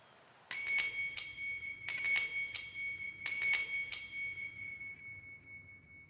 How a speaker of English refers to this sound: Shall I ring the bell?